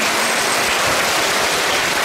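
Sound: audience applause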